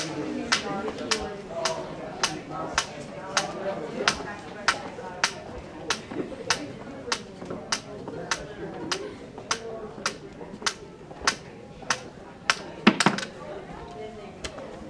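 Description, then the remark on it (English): A man walks with his cane from a reception desk to study rooms, past hallway panels that muffle sound, as the ambient sound deadens: steady footsteps with sharp cane taps, a crisp click about every half second, over a continuous murmur of voices and bustle. A brief cluster of louder knocks lands near the end. “Listen to the ambient sound deaden as he walks with his cane from the reception desk to the study rooms.”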